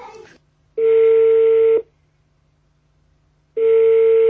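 Telephone tones before a call connects for a memorization lesson held by phone: two steady electronic beeps, each lasting about a second, separated by a longer pause, heard clearly with no talking.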